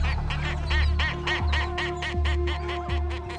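A skua, a large seabird, lifts its head and calls with its hooked beak open beside a group of fuzzy penguin chicks: a rapid series of harsh, nasal squawks, about a dozen evenly spaced cries, over a steady low rumble of wind or surf.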